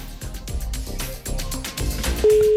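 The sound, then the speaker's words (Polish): Busy background music gives way near the end to a loud, steady telephone ringback tone of an outgoing call from a radio studio to a listener, a single unbroken beep that starts abruptly and holds to the close. “A teraz dzwonimy do...”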